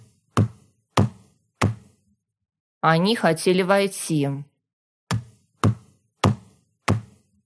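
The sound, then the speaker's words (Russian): A fist pounds very hard on a table with three loud thuds, then a brief spoken line, then four more evenly spaced blows. “Она опять стонет, потом стучит кулаком по столу.”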